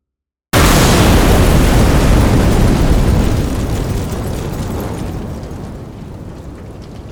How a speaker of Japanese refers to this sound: 鼓門に激突した車両が轟音を立てて爆発した。